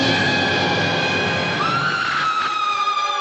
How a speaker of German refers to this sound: Da kann einem schon mal so ein Schrei auskommen. Armer Wissenschaftler, arme Frau.